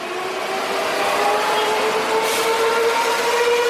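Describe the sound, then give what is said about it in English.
A metro train runs steadily along its rails, a continuous loud rumble with a high electric whine rising slightly over the few seconds, with no voices. “And if I can offer one word of life advice, it is to find someone who looks at you like a paisa looks at their metro.”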